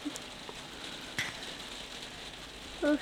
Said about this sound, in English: With rain out here.